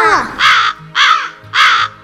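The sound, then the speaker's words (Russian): Voices imitate the cawing of well-fed birds, giving three loud, harsh 'ka' calls in a steady, evenly spaced rhythm with short pauses between them. “Давайте вспомним, как говорят наши птички, когда они сытые. Ка-ка-ка!”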